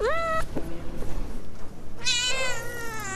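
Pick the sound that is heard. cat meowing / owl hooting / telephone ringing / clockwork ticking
cat meowing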